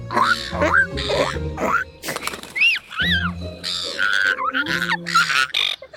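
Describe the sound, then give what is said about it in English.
Seagulls squawk and squabble at Parliament House in Canberra, begging for food from visitors and staff. A steady run of harsh, overlapping cries with brief noisy flurries between them, and no talking. “When visitors and staff carry food around, the seagulls notice, and they do what they do best, beg for a snack.”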